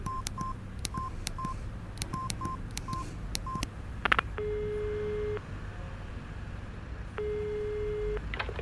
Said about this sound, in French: Elle composa le numéro du château sur son portable.